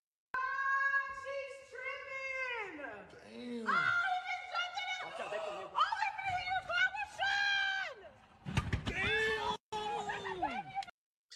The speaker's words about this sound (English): Can we get a single fucking video on this entire country without a fucking woman screaming?